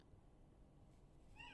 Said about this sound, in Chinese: 外面的猫都在发情